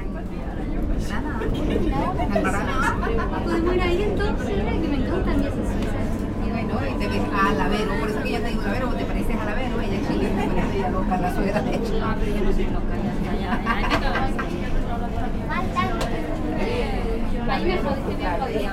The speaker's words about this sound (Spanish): Los metros suelen ser ricas fuentes de sonido, no solo por sus timbres, alarmas y mensajes de altavoz, sino también por cómo las conversaciones luchan por imponerse sobre el ruido de fondo.